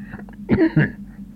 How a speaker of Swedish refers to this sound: Det är inte farligt, hostar ni.